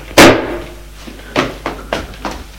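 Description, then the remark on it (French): A heavy, booming slam against a locked door, followed by four quicker, lighter thuds in an uneven rhythm, like a body throwing itself at the wood: a furious man taking a run-up and striking the door with his whole body until the lock gives way. No voices are heard. “Il prend son élan et de tout son corps, il cogne la porte.”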